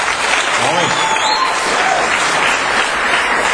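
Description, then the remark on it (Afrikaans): A church audience applauds the Lord in the evening, many hands clapping in a dense, even wash of noise that holds loud and unbroken throughout, with faint voices mixed underneath. “Almal van julle gee vir Here 'n groot hande klap.”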